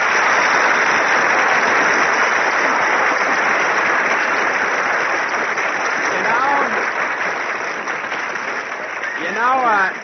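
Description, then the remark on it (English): Everybody in the Brown Derby in Hollywood applauds after Jimmy Stewart is greeted: loud, dense clapping for about ten seconds, and brief laughing or whooping voices rise near the end. “You say, well, if it isn't Jimmy Stewart, and everybody in the Brown Derby applauds.”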